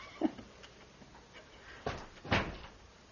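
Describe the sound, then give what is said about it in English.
A door slams shut, two sharp, heavy thuds about half a second apart after a quieter knock, with no one speaking. “The slamming of the door.”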